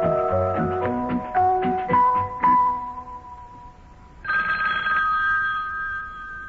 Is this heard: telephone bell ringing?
yes